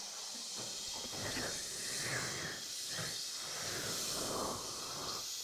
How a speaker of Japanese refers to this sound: 私の得意な炭酸泡をお届けするよ。シュワシュワシュワ。炭酸の泡の世界を味わってね。